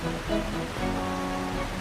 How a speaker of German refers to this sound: Na, ist das nicht herrlich? Aber ganz schön laut, dieser Wasserfall.